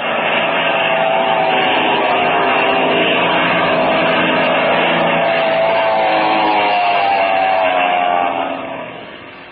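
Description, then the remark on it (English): A loud, steady engine roar of a black airplane diving toward people, its droning pitch slowly sliding, before the sound eases off slightly near the end. No voices. “Their plane is diving on us.”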